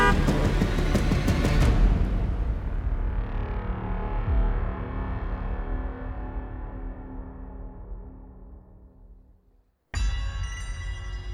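Loud, sustained car horns blare together in the middle of an intersection over a rumble of traffic, slowly fading, then another burst of overlapping horns cuts in sharply near the end.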